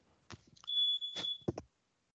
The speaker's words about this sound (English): Oh, the fire alarm is about to go off. yes. There it is. I heard it. Oh, I apologize. The house is not burning down.